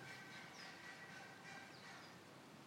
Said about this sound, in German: Und ihr hört es sicherlich auch, ganz viele Vögel gibt es hier.